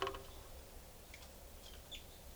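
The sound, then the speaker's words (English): Faint, brief bird calls from bird number 425: a few short high chirps scattered across a couple of seconds over a low, steady background rumble, with no voices. “It's recording, this is bird 425.”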